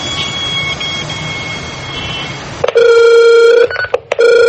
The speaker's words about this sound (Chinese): 家里电话响了，当时是我先生接的， 但是我不知道有那么严重，我就把电话交给他妈妈。